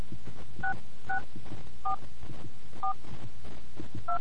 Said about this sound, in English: You must be calling from a touch-tone phone to participate in this survey. Please press 1 to continue. Please enter your 6-digit Gallup access code by pressing the corresponding keys on your phone. Please enter your number now.